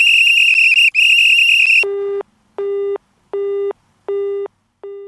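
A piercing, loud whistle is blown down a telephone at a caller in two long blasts with a brief gap, then a telephone busy tone takes over, beeping in steady, evenly spaced pulses.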